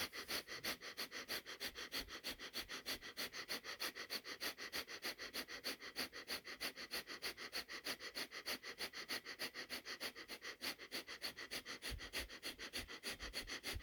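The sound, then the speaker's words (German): Rapid, forceful breathing exercise: sharp nasal exhalations pumped out in a fast, steady rhythm, roughly three or four per second, loud and continuous for the whole stretch with no talking. “Reinigender Atemzug ein und aus.”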